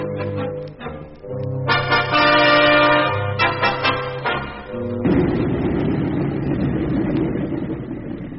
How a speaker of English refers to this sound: That's your plane out there, Therese. Yes, nearly time.